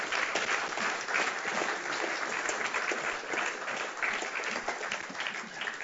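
A crowd applauds steadily, many hands clapping in a dense, continuous patter at an even volume for several seconds, with a faint murmur of voices underneath.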